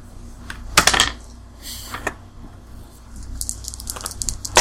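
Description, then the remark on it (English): Red dice clatter onto a hard tabletop during a game, a sharp burst of clicks followed by a few smaller rattles and taps as they tumble and settle, with no talking. “Can I have a red dice,”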